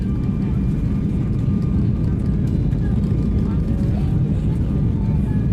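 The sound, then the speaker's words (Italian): Steady, droning roar of an airplane cabin in flight on a plane bound for Casablanca, Morocco, a deep constant rumble with a faint high hum riding on top, unchanging throughout. “Ed eccoci qua, sull'aereo diretto a Casablanca. Mentre siamo in volo, i ricordi cominciano ad assalirmi.”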